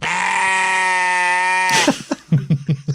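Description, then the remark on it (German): A loud sheep bleat used as a censor bleep: one long, steady baa that breaks into a quick, wavering series of shorter bleating pulses, heard alone with no talking. “Du kannst es ja sagen und dann piepsen wir es weg. Mit so einem, mit einem Man von einem Schaf.”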